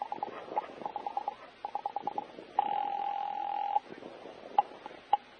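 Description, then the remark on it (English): A telephone in an office being dialed to call the guard at the main gate: rapid bursts of short electronic beeps, a steady tone lasting about a second, then a couple of isolated beeps, clear with no one speaking. “You wait another half minute and then pick up the phone and call the guard at the gate.”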